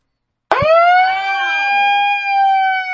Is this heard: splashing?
no